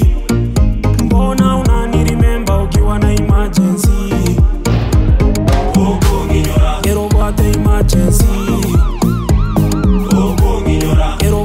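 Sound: ambulance siren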